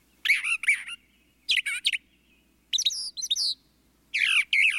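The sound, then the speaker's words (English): A brown thrasher sings, with four bursts of rich, varied whistled phrases, each phrase quickly doubled, separated by short pauses. The bird is clear against a quiet background, and no one speaks. “Brown thrashers live year-round in the southeastern U.S. and breed in the Northeast, Midwest, and Great Plains.”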